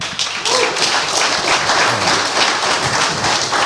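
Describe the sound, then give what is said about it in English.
An audience breaks into sustained applause, a dense crackle of many hands clapping at a steady, fairly loud level for several seconds with no voices over it. “Clap it up for that, and rest in peace to Mayor Marion Barry.”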